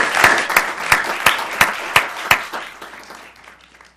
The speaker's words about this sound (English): And can we have a round of applause for them? Appreciate it.